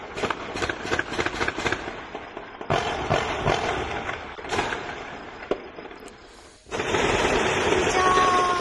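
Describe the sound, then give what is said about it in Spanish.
A rapid volley of gunfire from military weapons during a shootout in the Torrejón neighbourhood of Huelva, Spain, sharp cracks fired in quick succession, then scattered single shots before a steady rush of background noise takes over. “Detrás de semejante ensalada de tiros, con armas de guerra, está la muerte de un varón en un tiroteo hace una semana”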